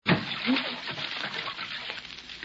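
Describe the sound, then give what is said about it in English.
Water splashes and sloshes vigorously in a bathtub as a man's feet are jerked up and he goes under the water, a sudden burst followed by a couple of seconds of continuous churning, fairly loud. “Well, you can come out from under the water now, darling.”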